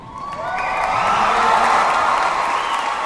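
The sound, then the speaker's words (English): A crowd at a graduation ceremony stands and cheers for a graduate with cerebral palsy walking across the stage with a walker, loud and steady, with overlapping shouts and whoops above a broad wash of noise that swells and holds for about three seconds. “Everyone in the room stands to cheer him on.”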